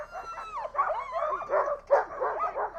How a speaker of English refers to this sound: We're going to have six dogs. We're going to go about a 5 mile loop. So this is dog mushing. It's best. Noisy. You can load up. The dogs are super excited.